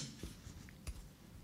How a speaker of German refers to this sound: Man hat danach so ein Knistern gehört wie bei einem Feuer. Ja, so an der Streichholzpackung. So ein also ein Streichholz, ja. Das angezündet wird?